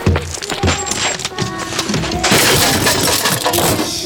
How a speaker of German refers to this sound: Auf 3 gehen wir rein. Wir werfen uns gegen die Tür. 1, 2, 3.